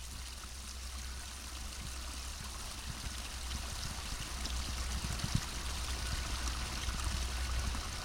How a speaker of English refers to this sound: Burnaby Mountain is beautiful. It's also bustling. As we heard the sound of streams and birds, we also began to hear tractors.